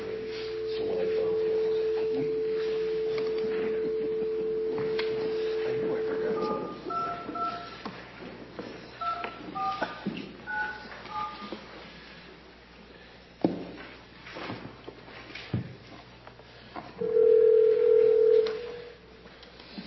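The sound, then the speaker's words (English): A steady telephone dial tone hums for several seconds, then a quick series of touch-tone beeps as a number is dialed to call a chief deputy district attorney during a county meeting, followed later by a short tone burst, over a faint background. “We're going to go ahead and get Chief Deputy District Attorney on the phone.”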